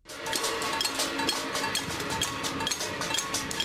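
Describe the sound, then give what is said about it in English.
A dense, continuous clatter of metal being struck as Icelandic protesters outside their parliament bang pots, pans and gongs in overlapping, irregular rhythm, bright and clanging, with a low rumble of crowd noise beneath and no clear speech. “Icelanders demonstrate outside their parliament in distinctive fashion, banging pots and pans and even gongs.”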